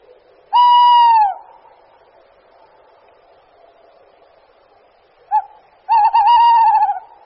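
A male tawny owl hoots loudly, marking and defending its territory: one drawn-out hoot, a long pause, then a brief note followed by a long, wavering, tremulous hoot. No one speaks.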